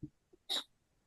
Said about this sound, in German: Warte, ich muss niesen.